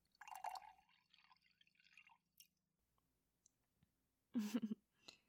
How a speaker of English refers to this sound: You're looking a little pale. Here, let me pour you some tea.